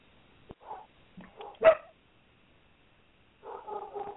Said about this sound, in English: Are dogs barking back and forth at one another? Yeah, Rudy literally hears whose ever dog that is, and he just is chirping. Yeah, that's mine. My idiot dog.